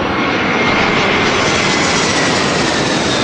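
A jet aircraft engine roars steadily and loudly, a dense, unbroken rushing noise that holds constant for the whole few seconds with no voices.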